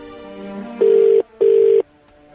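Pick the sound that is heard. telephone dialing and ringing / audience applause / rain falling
telephone dialing and ringing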